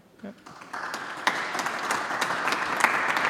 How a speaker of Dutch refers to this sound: Applaus in de Oude Kerk voor ME en terecht.